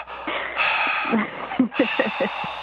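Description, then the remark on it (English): A person does a creepy imitation of heavy breathing: airy, hissing breaths with a run of short, rhythmic huffs and gasps toward the end. “You don't want to have the, like, weird breathing on the other one.”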